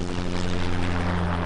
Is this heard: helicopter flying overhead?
yes